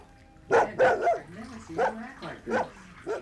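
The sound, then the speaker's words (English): A dog named Banjo barks sharply in a bathroom by a bathtub, six or so rapid, agitated barks in an uneven rhythm, some with a whiny, yelping edge, over a quiet background. “I'll get the dog out of here.”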